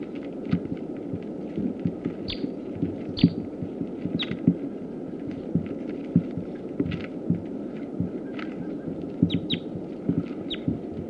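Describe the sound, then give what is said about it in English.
A captive male sitkensis bird, just captured and now on the cage, gives short, high chirping calls, repeated irregularly every second or so, over a steady low rumbling hum and throbbing background noise. “That was him again. Sitkansis male. Captive.”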